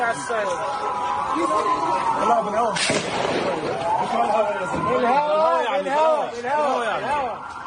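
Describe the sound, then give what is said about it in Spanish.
A sharp, loud gunshot fired by the Israeli army cracks out once partway through, during a visit by a group of diplomats to Jenin in the northern West Bank, amid a noisy crowd of agitated voices shouting and talking over one another. “Todo quedó grabado en un video de 45 segundos en el cual se escuchan disparos.”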